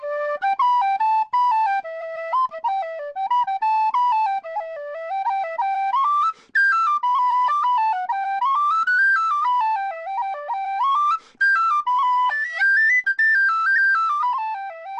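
tin whistle being played

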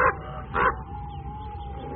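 bird, raven calling

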